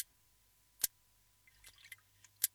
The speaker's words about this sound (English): Then one day, while observing rig sharks, she heard a clicking sound coming from the shark, like a crackle of electricity.